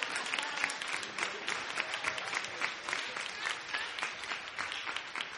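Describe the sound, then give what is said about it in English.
A room full of people claps steadily this morning, the dense patter of many hands at moderate volume for several seconds, with no speech over it. “Oh, they're not going to clap in here this morning.”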